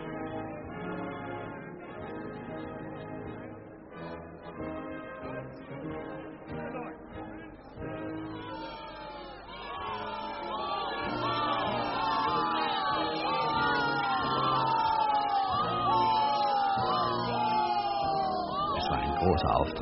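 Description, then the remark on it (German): A crowd in a spa park cheers and shouts for a returning prince while the spa band plays the prince's anthem, a dense mass of overlapping voices that swells louder about halfway through, with many rising and falling whoops and yells riding over the din. “Das Volk jubelte, die Kurkapelle spielte die Fürstenhymne”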